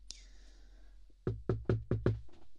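A rapid series of about six firm, loud knocks on a door, following a moment of quiet room tone; no one speaks.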